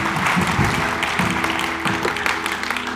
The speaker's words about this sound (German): Gebt denen nochmal einen riesen Applaus. Ihr dürft Platz nehmen.